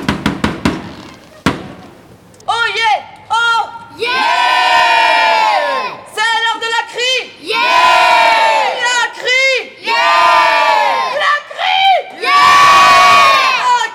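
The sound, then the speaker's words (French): A female town crier's powerful voice rings out in long, drawn-out shouted calls, several declamations in a row with brief pauses between, loud, with a gathered crowd of local residents audible around her at a weekly public crying under the market halls. “Elle convie les habitants chaque semaine à vivre ensemble ce moment où elle crie, clame, entonne, harangue et chante à qui mieux mieux.”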